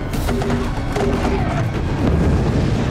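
Loud, rumbling explosions from The Walking Dead destroying the fictional town of Alexandria, deep booms rolling into one another to form a continuous, roaring wall of blast noise that swells slightly toward the end.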